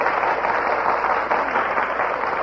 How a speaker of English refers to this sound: Your applause, please, for letting him go first.